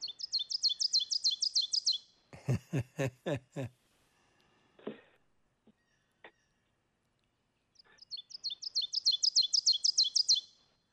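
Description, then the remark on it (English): An ovenbird's teacher-teacher-teacher song, rapid two-note phrases swelling louder as they repeat, sung twice with a brief pause between, separated by a burst of lower, harsher rhythmic calls. “have you got the Evan bird call? Teacher, teacher, teacher.”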